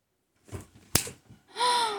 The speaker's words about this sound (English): So, I would recommend just shut the fuck up and take every slap, every hit.